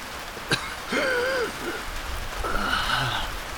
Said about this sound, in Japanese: ああ、雨が。冷たい。